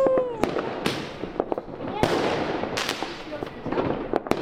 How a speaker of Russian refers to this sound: Можете поздравить, сегодня у нас было подписание контракта по сервису. Это да, а салют!